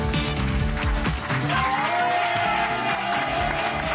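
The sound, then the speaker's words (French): An audience at a Europe 1 radio show with Philippe Geluck cheers and shouts for him in a loud, continuous roar that lasts the whole time, with overlapping voices and scattered clapping blending into a dense wall of noise. “Quand j'entends les gens hurler comme ça, je me dis qu'est-ce qu'ils vous aiment.”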